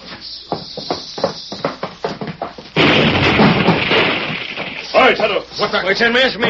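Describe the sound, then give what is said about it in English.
After a stretch of quick tapping sounds, a sudden loud blast blows up a safe and roars as a broad, rumbling wash for about two seconds; voices talk once it fades. “Step back, Hook. I'm going to blow this thing up.”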